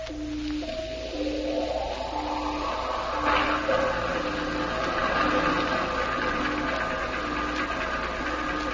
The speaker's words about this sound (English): Can you tell what it is we're following, Sparks? Sounds like a heavy cruiser, sir.